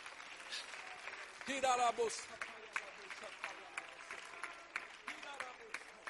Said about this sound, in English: If you believe that, would you claim that right now? Would you clap your hands and would you claim that?